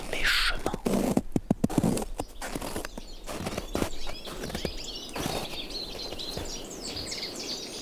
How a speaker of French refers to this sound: Une brise venteuse, un chemin, des arbres, des oiseaux.